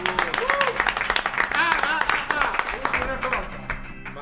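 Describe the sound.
Dense, steady audience applause with many rapid overlapping claps, fairly loud throughout, while several voices talk and call out over it, fading slightly toward the end.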